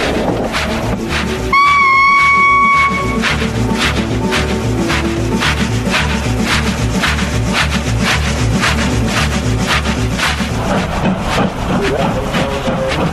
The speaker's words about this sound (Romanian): Tu, lovite-ar năbădăile, trenul ăsta sau căruță, frate drag? Zdruncene și hodorogește mai abitir ca droșca lui Marin Zarzavatiu. După cum văd eu că găfâie, slabă nădejde să ajungem la orele prăjului.